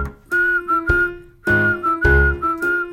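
A group sings the whistling section of a song as a bright, steady whistled melody. Clear, sustained notes are carried over a rhythmic backing that strikes on the beats. It is loud, with no talking.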